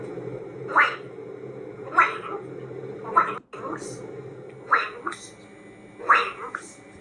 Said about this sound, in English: You know, if that macaw is hearing the phrase gray goose enough that it starts saying it